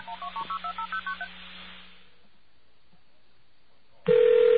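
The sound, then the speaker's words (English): A quick run of about nine touch-tone dialing beeps over a low hum as a number for Michigan Bell's automated CNA Bureau is called, then a few seconds of quiet line before a loud, steady telephone tone cuts in, as if the call connects or rings. “Let's give that number a call.”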